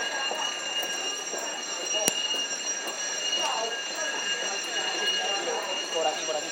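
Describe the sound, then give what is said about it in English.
A fire alarm rings in a steady, unbroken high-pitched tone that fills the space, with a busy murmur of background noise and indistinct voices underneath. “The fire alarm has been activated. Evacuate the area immediately.”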